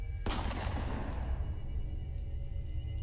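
gunshot sound effect

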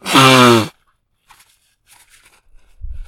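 blowing nose

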